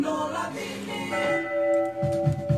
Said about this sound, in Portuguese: 8 horas e 3 minutos, 8 e 3, toca o sino